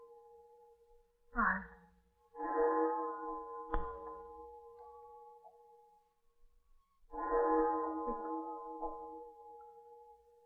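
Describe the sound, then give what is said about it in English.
Big Ben, a large clock-tower bell, tolls a few slow, spaced strokes chiming the hour over the city, sounding very close tonight. Each stroke is a loud metallic clang blooming into a rich ringing hum that lingers steadily between the strikes. “To stand by the window and count the strokes chiming over our city.”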